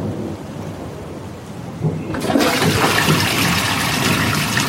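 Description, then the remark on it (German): A thunderstorm with low rolling thunder under steady rain. About halfway through, the downpour abruptly grows heavier and louder, a dense hiss that continues to the end. No one speaks. “Zieht das Gewitter auf?”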